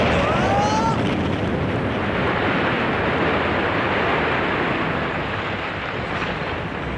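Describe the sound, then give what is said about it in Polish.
A loud, continuous roar of spaceship engines blasting at launch as Captain Astruś's falling-apart ship is fired toward Earth, a dense rumbling rush that holds steady for several seconds, with a brief falling whistle near the start. “Eksplozja silników co prawda wcisnęła Astrusia w fotel i potłukła lustra w pokładowej łazience, ale rzeczywiście wystrzeliło jego rozpadający się statek w kierunku Ziemi.”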